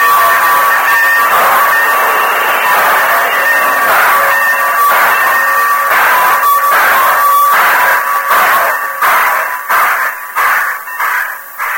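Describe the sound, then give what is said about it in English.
A steam locomotive pulls out of the Modoc City station with a long, steady whistle over hissing steam, then loud rhythmic chuffs begin and gradually quicken as the train gathers speed. “All right, get the train moving, Tonto! The engineer obeyed, and the train moved out of the Modoc City station.”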